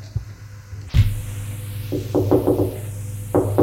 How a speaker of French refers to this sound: On a frappé à la porte.